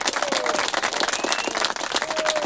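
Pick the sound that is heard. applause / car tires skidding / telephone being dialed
applause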